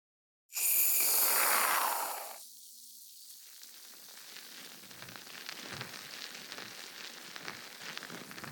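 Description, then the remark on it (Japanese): A loud, hissing burst of spray from an aerosol can of carbonated foam, dispensed into a hand for a scalp massage, lasts about two seconds, then gives way to a steady, fine crackling fizz of foam that lingers quietly to the end. “じゃあ早速泡を手に出して、”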